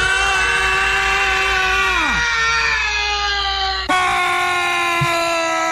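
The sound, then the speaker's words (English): Loud, sustained screaming held for several seconds as part of scream yoga. One long scream drops sharply in pitch, and steady screaming carries on right to the end without a pause, strained. “She just finished the scream yoga.”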